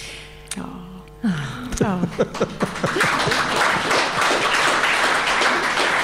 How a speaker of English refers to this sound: We need to acknowledge that with a clap. Thank you, folks.